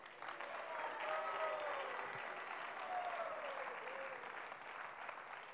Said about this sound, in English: I also would like to thank the Kirtaniyas. I don't know if they're all here yet, and if they are, I don't know if they're all in this room, but they all have come long distances to make this gathering a success. An applause for them.